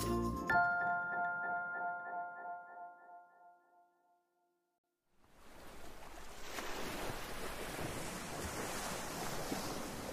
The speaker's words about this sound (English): We're at the beach. Wow, look at those ocean waves. I love how the ocean looks like it can go on forever.